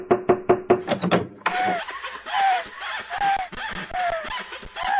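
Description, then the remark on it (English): A quick series of about five sharp knocks on a door, fairly loud, followed by a stretch of snickering laughter. “Damn, wrong door.”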